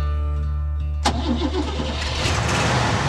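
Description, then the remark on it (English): A car engine cranks and catches with a sharp burst about a second in, then roars and revs loudly, settling into a rough, throaty rumble. “So moonshiners took their Ford V8 coupes and stiffened up the rear springs”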